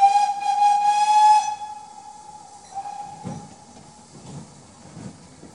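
A steam locomotive at Victoria station in Norwich blows a loud, shrill whistle for over a second, then it fades into a steady hiss of steam broken by a few rhythmic puffs and bursts, with no voices.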